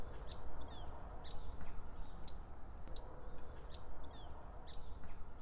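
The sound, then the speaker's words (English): A white-throated sparrow gives sharp, high alarm call notes, repeated about once per second in a steady rhythm, clear over a low, constant background rumble. “so they very rarely let you walk through their nesting territory without a stern warning as they fly out of the woodwork to perch all around and scold you with a persistent offering of alarm call notes.”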